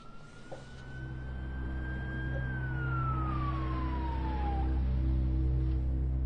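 police car siren

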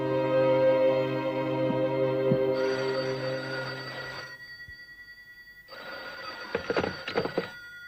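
telephone bell ringing

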